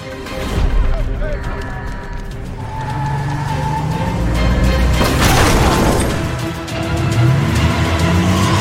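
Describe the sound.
A car engine runs loudly and steadily, its pitch rising and falling as the vehicle drives and revs while its driver flees, with a harsh rushing surge midway and voices mixed in, ordering the driver to turn off the car and get out.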